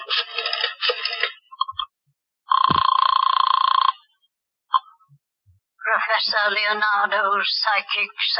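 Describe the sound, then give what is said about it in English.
An old-fashioned telephone bell rings loudly in a single burst lasting over a second, set between stretches of people talking, with a brief click afterward, as a call is placed to Professor Leonardo, a fortune teller. “Want to use the phone?”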